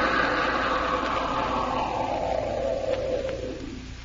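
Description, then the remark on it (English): A submarine's engines are shut down at periscope depth, a steady mechanical hum sliding lower in pitch over a few seconds before fading out. Nobody speaks. “Kill engines. Kill engines, sir. Kill engines.”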